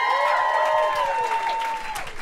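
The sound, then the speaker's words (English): An audience at a live show applauds itself at the start of the show, a dense wash of clapping with high whistles and cheers gliding over it, holding loud for about two seconds before easing slightly. “Yeah, clap this it is up really for yourselves.”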